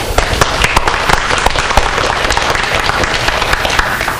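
An audience applauds steadily for several seconds to welcome newcomers exploring the faith to join in worship, a dense wash of many hands clapping with scattered sharper claps standing out, loud and sustained without any talking over it.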